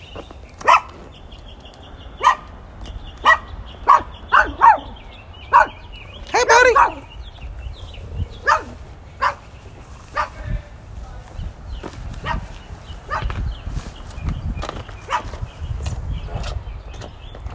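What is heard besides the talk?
small dog barking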